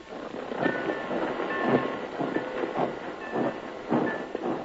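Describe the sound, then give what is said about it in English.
Monsieur Bernard's steam switch engine chugs along, its steady hiss broken by rhythmic puffs of steam and faint high whistling tones, with a metallic rattle underneath. No one speaks. “suppose this Monsieur Bernard object to having his steam train taken.”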